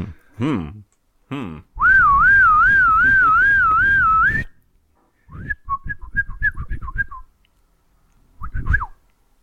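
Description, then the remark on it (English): A shrill, warbling whistle, like a bosun's pipe call, rises and trills loudly for a few seconds, then breaks into a series of short chirping whistle notes with a final brief pip. “A shrill, evil whistle that the bosun's mate of the watch will blow in different patterns to signify different things on board ship”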